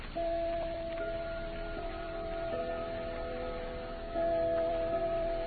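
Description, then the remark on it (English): A clock strikes the Westminster chime: a slow sequence of ringing bell tones, each note overlapping the last as it sustains, clear with a faint background hum and no voices. “No, but your clock strikes the Westminster chime.”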